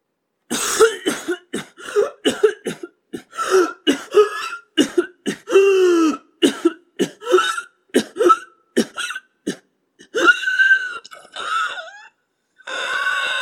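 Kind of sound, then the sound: human body sound, coughing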